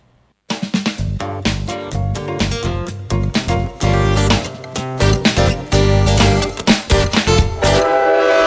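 A loud, upbeat soundtrack song begins after a brief silence, its music blended with train sounds: horn-like blasts and steady rhythmic chugging that run throughout, with no voices.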